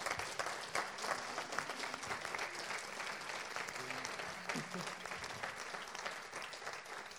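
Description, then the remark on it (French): An audience applauds steadily for several seconds, a dense, even wash of many hands clapping with no clear pauses, holding a fairly constant loudness throughout. “Et puis, oui, franchement, on peut les applaudir.”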